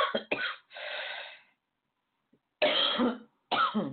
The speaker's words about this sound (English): My coughing isn't doing so well. It did really well all day, even though I woke up in the morning coughing.